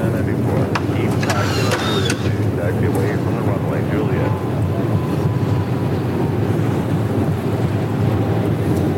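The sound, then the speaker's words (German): A loud, steady rumbling roar of an airplane braking hard on the runway after touchdown, with a few faint clicks and rattles early on and muffled speech beneath the noise. “So, wir sind gelandet. Dann bremsen wir mal ab.”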